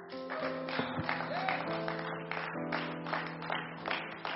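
A church audience claps their hands unto the Lord steadily in a dense, continuous burst of applause, while sustained organ or keyboard chords play underneath.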